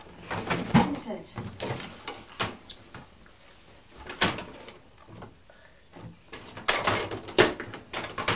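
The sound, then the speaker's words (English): Someone rummages through a drawer looking for a yellow spanner: irregular bursts of clattering and scraping as items are shoved around, with brief pauses in between and a faint voice now and then. “Well, I'll have a look, but can't promise anything. If it's not in that drawer, it's because somebody hasn't put it back in the right place.”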